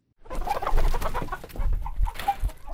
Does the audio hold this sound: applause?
no